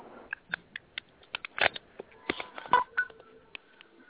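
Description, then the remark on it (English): A quick, irregular run of short electronic beeps and clicks, like keypad tones, a dozen or so in about four seconds, with a few louder bursts in the middle. No one speaks. “What the fuck is that there beeping sound?”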